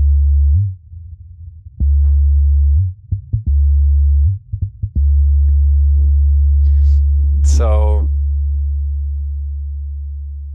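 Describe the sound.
A loud, low synthesized hum with buzzy distorted overtones, generated by a mass-spring physical model of one mass and one link in a Qt application, drones almost continuously, briefly cutting out and restarting with clicks. A short spoken word comes in near the end as the tone slowly fades.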